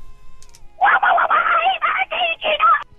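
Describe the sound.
A person does a raspy, quacking Donald Duck voice: a quick run of garbled, buzzy syllables in close succession, loud, lasting about two seconds.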